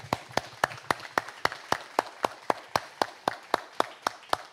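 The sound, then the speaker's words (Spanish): A standing audience claps for the Holy Spirit at a church service on 19 May 2024 celebrating the coming of the Holy Spirit, in a steady, even rhythm, roughly three to four sharp claps per second, sustained for several seconds with no talking. “Póngase de pie y un palmas al Espíritu Santo.”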